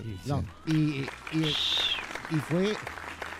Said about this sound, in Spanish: Y aplausos, por favor.